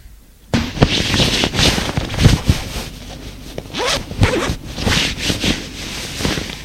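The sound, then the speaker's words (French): A man undresses: clothing rustles steadily for several seconds, broken by a few rasping zipper pulls and sharp fabric snaps. Nobody speaks. “Il se déshabille.”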